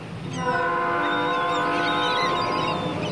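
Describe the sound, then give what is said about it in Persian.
A train horn, played as a sound effect in place of a ship's horn, sounds in one long, steady, loud blast of layered tones that holds for about three seconds over a low rumbling background, with no one speaking. “میگی عاشق سفر با کشتی هستی؟ بعد صدای بوق قطار می‌ذاری؟”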